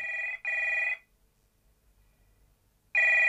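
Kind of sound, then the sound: household object, telephone ringing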